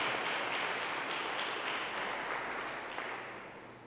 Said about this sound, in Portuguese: Aplauda a Deus do Senhor.